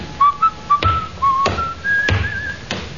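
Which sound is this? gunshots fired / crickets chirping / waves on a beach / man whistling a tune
man whistling a tune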